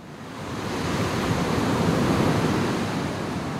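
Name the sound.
ocean waves breaking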